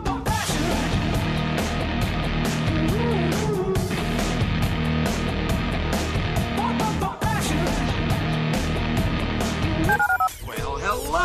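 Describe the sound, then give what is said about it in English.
Telephone keypad tones beep in quick succession as a phone number is dialed for the listener line of ESPN 97.5 radio. They are layered over a dense, loud musical backing, with a short run of stepped pitches near the end. “Dial the phone.”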